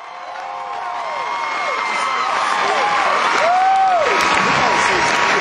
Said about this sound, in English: They said goodnight. The crowd went crazy. Listen to a little bit of this and what the people said.